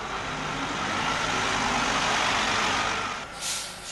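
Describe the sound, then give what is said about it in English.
The engine of the Young Invincibles' cross-country tour bus rumbles steadily at its first stop in Madison, a broad continuous drone, with a brief hiss near the end like an air brake releasing. “The first one off the bus was the group's communication coordinator,”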